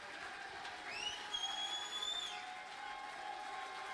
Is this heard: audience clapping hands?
yes